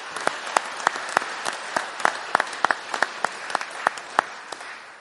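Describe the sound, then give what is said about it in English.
An audience at a free public ASPG evening event applauds Mike Smithson, many hands clapping in a dense, irregular patter with sharper individual claps popping out, holding a steady moderate level throughout with no voices. “A round of applause for Mike as well.”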